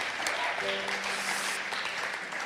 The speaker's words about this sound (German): Lass uns Gott für das einen Applaus geben.